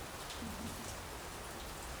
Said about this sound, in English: Just listening to the rain. Apenas escute a chuva.